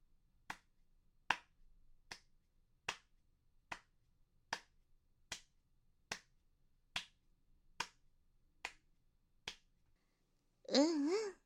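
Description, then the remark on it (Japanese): About a dozen sharp hand claps land at a steady, even pace, each crisp and moderately loud, followed by a short burst of wavering voice at the very end. “そう、手拍子。”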